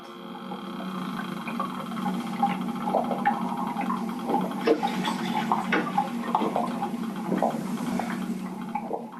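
Fish sounds captured underwater by highly sensitive hydrophones in deep alpine mountain lakes, African rivers or off the US East Coast: a steady watery murmur with scattered clicks, grunts and short knocking pulses rising out of a dense low drone, no voices present.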